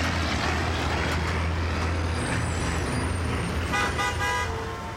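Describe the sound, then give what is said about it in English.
Car horns honk over a constant roar of heavy New York City street traffic and engine rumble in a densely populated neighborhood, with a louder burst of blaring horns near the end. No one speaks. “The streets are much noisier than they were 20 years ago, even 10 years ago.”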